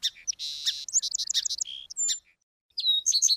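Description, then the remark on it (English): A song sparrow sings its territorial song: a quick run of bright, high chirps and buzzy trills, a short pause, then another burst of sharp notes, with no voices. “It starts its territorial song during the first mild days of spring.”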